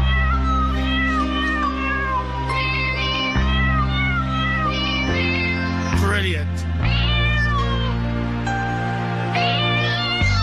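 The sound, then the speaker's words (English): A cat meows repeatedly in drawn-out, wavering cries over a steady, droning musical backing, with a person briefly speaking partway through. “If you have a cat at home, bring the cat into the room and see how it reacts to this.”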